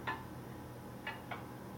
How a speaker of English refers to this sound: And that is an app on my phone called G-Clock. As you can hear, the clock ticks, and apparently there are a number of grandfather clock icons one can choose from as background pictures, and there are also various chime sound effects.